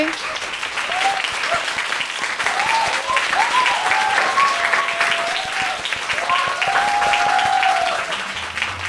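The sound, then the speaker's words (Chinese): An audience at a live evening show claps steadily and loudly for several seconds, with high, wavering screams and whoops rising above the dense applause throughout. “大家要尖叫就再大声一点好不好？”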